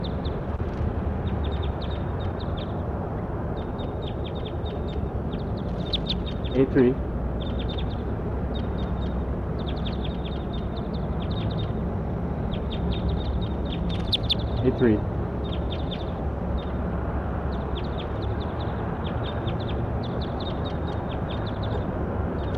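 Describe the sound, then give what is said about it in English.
A bird calls over a steady rushing background, with quick high chirps repeating throughout and two louder, fuller calls standing out partway through. “Start recording, bird. 83. Not yet. There she goes. That's her.”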